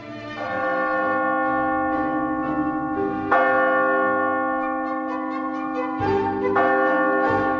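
A clock strikes twelve with deep, resonant bell strokes, each strike ringing out and overlapping the next as a steady, humming tone sustains underneath. No voices.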